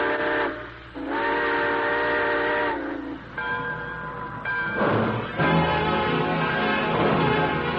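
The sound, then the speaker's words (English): A steam train whistle sounds in several long, loud blasts with rich harmonic tones, separated by short gaps, over the low rumble and chuffing of a locomotive pulling away at the close of the radio show The Railroad Hour. “All aboard. Well, folks, it looks as though we're ready to pull out.”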